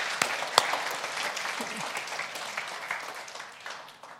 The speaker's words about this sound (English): Can we just give Jesus a hand clap of praise today?